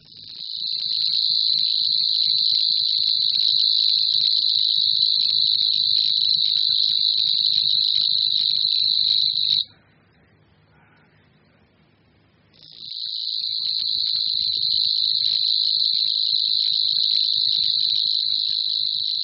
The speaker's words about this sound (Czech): Cvrčilka Slavíková